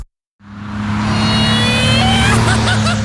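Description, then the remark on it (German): In an ATU car-workshop advert, a car engine starts up and revs loudly, its steady low roar climbing in pitch with rising whine tones as the vehicle accelerates, lasting about three seconds with no talking. “So klingt es, wenn ATU-Meister für mehr Fahrspaß sorgen.”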